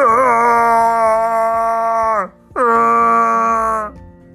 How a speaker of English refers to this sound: the Yeti was shouting.